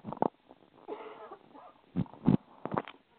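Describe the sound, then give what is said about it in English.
A handful of short, harsh coughs come in separate bursts, with a raspy, wheezy breath between them and no talking. “And excuse me, I have to cough for a second here.”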